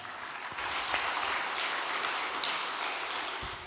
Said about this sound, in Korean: 그럼 단상에 모실 때 뜨거운 박수 부탁드리겠습니다.